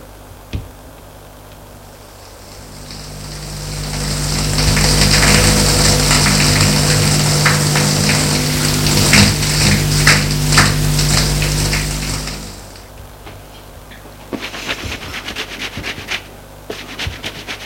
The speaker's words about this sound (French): C'est une sorte d'eau pour prendre une douche.